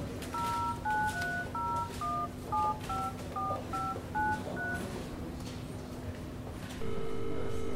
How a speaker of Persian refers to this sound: بلد نیستم با موبایل کار کنم، خودتون شماره رو بگیرید.